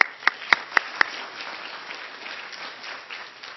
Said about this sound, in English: And we had a total of 9 visitors in Sunday School this morning. So give yourself an applause for having a very successful time of fellowship and study this morning.